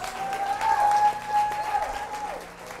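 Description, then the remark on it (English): A crowd applauds steadily for a few seconds for a man after a prayer, dense hand claps at moderate volume while a sustained musical tone, like an organ or keyboard, hums underneath. “Yeah, give him a hand clap.”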